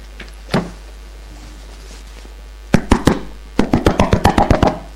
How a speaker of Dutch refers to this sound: Er staat een man voor de deur. Hij klopt zo vaak. Hij zal wel heel graag naar binnen willen.